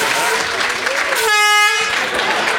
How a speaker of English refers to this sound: I'm getting an air horn.